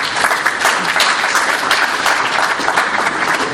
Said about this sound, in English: So if you could please give a round of applause